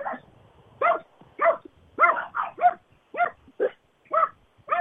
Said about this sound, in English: My neighbor has a dog, and our dogs just love to play around with it, running up and down the fence and barking at each other.